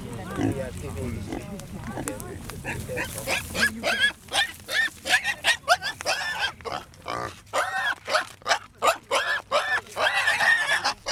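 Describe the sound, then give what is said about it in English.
A little pig, tethered in the bushes while people gather around, squeals over and over in sharp, high-pitched bursts, loud, with grunts mixed in and people's voices murmuring in the background. “It was a little pig, the son of Yabon, tethered at first in the bushes while people gathered around.”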